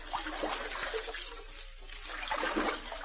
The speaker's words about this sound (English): We'll start paddling, Charlotte.